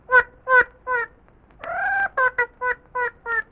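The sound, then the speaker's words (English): A duck, Happy Duck, dressed like an artist in a little red tam-o'-shanter, quacks in a quick series of about eight nasal quacks, with one longer, drawn-out quack in the middle, fairly loud and with no talking. “Oh, Happy Duck is here wearing...”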